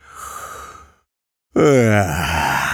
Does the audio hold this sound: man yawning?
yes